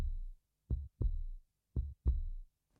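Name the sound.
heartbeat sound effect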